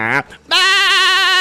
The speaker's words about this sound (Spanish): La chiva está por... Hay otra por allá.